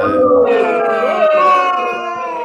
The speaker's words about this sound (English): That was people booing me for using your login.